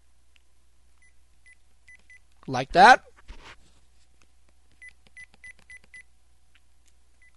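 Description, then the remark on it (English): Quiet, short electronic beeps from button presses on a programmable 1,000-channel radio scanner come in small clusters: a few at first, then a quicker run of five or six. A person briefly speaks between them. “I didn't show you that, but the radio does actually beep when I press buttons.”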